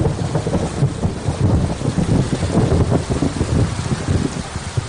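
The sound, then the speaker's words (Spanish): Heavy, torrential rain pours down steadily, a dense hiss with gusting wind rumbling underneath and buffeting the microphone throughout, loud with no voices; a cloudburst at dusk on the evening of Wednesday 21 June in villages of La Rioja, with up to 50 litres per square metre. “en la tarde-noche del miércoles 21 de junio se registraron trombas de agua en nuestra comunidad”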